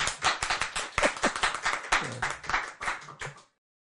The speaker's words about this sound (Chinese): 赞！ 拍手。